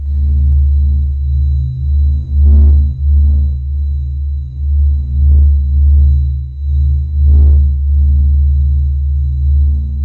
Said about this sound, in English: that is the sound of the sun, recorded by NASA, who have recorded the electromagnetic vibrations of each of the major planets and stars